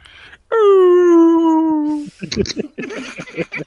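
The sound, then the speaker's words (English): A person imitates a werewolf with one loud, sustained howl that slowly slides downward in pitch for about a second and a half, followed by people talking. “Yeah, I'm gonna be like, …, why were you howling?”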